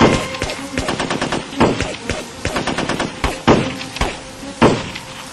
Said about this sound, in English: JB nodded his agreement, and then the shooting began.